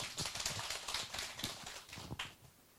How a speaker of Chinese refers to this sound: 好吧，我们再请下一位姐妹，我们鼓掌欢迎她。